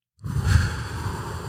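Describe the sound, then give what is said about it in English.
A single long, deep inhale through the nose as part of a breathing exercise, a soft airy whoosh that starts suddenly after a brief silence and holds steady, with no talking. “In through the nose.”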